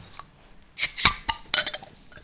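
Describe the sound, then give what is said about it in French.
Several sharp glass clinks and clatters, fairly loud, come in a quick irregular cluster as bottles of Bruxzot blonde beer from Bruges are handled and opened, with no one speaking. “Alors avant de vous en parler, je pense qu'on va pouvoir les ouvrir.”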